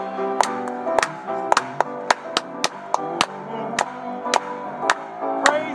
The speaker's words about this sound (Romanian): Slavă Domnului! Haideți doar să aplaudăm Lui!